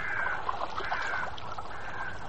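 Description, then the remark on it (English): Birds hover and call continuously in a dense, overlapping chorus, shrill cries layered over one another above countryside by a stream with sheep, with a steady wash of outdoor background noise and no talking. “And those birds. What's all that about, I wonder?”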